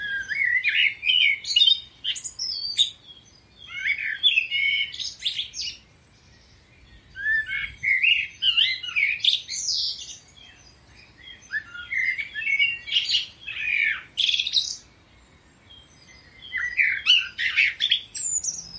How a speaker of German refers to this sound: Und ich habe mal einen Vogelgesang mitgebracht. Kannst du dir mal anhören? Die Amsel.